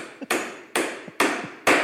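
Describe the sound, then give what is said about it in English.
Four sharp hammer blows from another floor of the building land at a steady, even pace, each ringing briefly before the next strike. The hammering is loud and clear, with no voices. “Somebody go up there and stop the hammering.”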